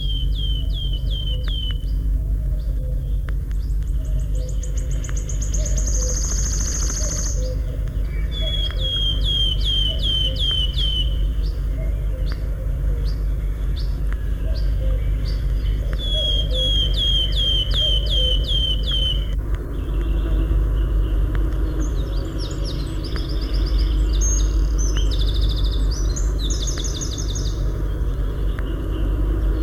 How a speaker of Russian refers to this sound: Вот порхает с песенкой пеночка Трещотка. Для трещотки еще характерен звонкий печальный свист.